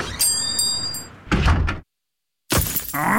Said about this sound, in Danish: Et stenslag! Bare rolig.